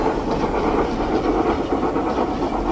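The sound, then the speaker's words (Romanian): A train rolls along the rails with a steady, loud rumble and faint clatter, filling the whole stretch without pause. No voices are heard. “Le-a luat trenul și le duce departe.”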